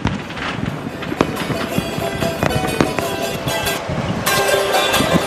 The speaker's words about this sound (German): Und sie lieben es laut zu sein, darum nutzen sie Böller und Feuerwerk. Aber keine Sorge, es sind keine Schüsse.